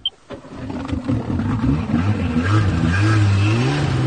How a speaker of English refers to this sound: It's a personal watercraft or jet ski.